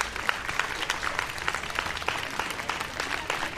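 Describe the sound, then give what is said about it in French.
An audience applauds steadily, many hands clapping in a dense, even patter of sharp bright claps that holds at a moderate level throughout with no voices. “Et voilà, les … qu'on peut encore applaudir, merci.”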